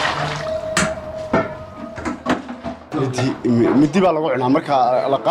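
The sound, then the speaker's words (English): A few sharp metallic clanks and a liquid slosh as an aluminium plate is plunged into a vat of simmering meat and vegetable soup and scoops up a slab of meat, followed by people talking over busy restaurant noise. “plunges an aluminium plate into the vat and scoops up a slab of meat.”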